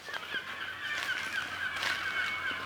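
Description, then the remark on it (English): Seagulls call over and over in Antarctica, harsh squawks overlapping in a steady chorus that carries on without a break, with footsteps, the sea and a low hum of wind underneath. “Mostly at the moment we can hear seagulls.”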